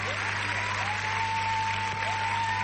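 An audience claps steadily in a dense, continuous wash of applause, loud and even throughout, with a faint tonal whine running underneath and no voices on top.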